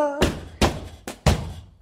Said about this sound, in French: Qui donc frappe à ma porte?